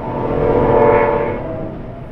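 A train rumbles by with its horn blaring a steady, sustained chord that swells loudest midway, then eases off over a couple of seconds. No one speaks.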